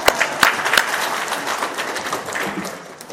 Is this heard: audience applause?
yes